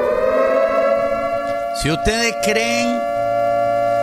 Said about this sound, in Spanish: Que estoy escuchando la alarma a todo volumen. ¿Qué está sucediendo?